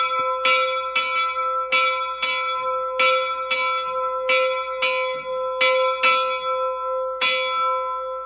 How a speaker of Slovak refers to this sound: Takto zvoní sanktusník v Liptovskom Jáne, tak sme ho rozpohybovali. Tu bola napríklad, hej, dierka až dole a stiahnuť a potom zvoniť.